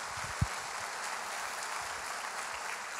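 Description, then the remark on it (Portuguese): An audience applauds the Lord, steady dense clapping filling the whole stretch at an even level, with one brief low thump near the start and no voices on top. “Está falando, pode aplaudir o Senhor, em nome de Jesus.”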